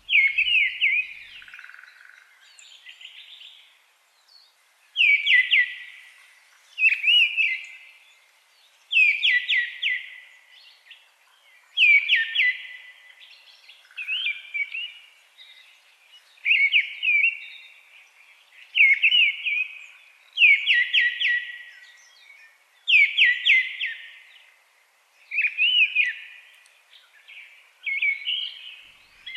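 thrush song

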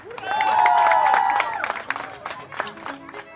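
round of applause

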